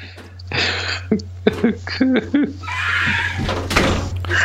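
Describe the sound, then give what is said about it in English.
A door swings shut with a solid thunk amid shuffling and a few brief, indistinct voices, over a steady low electrical hum. “Close the door, please.”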